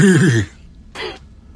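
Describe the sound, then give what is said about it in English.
A person's voice mimics a horse's whinny in one short, wavering, quivering burst, followed after a brief pause by a soft breathy exhale. The imitation is fairly loud. “So just do the sound of a horse.”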